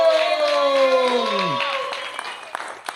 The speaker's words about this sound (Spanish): Ok, gente, ahorita hablé de chisteando, pues permítame presentarle al siguiente comediante, que es 50% de ese espectáculo. ¡Fuerte aplauso